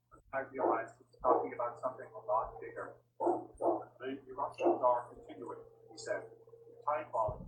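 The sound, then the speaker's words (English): A female black Labrador mix dog barks repeatedly at people in quick, uneven bursts of short yapping barks, moderately loud, over a steady low background hum. “She likes to bark at people.”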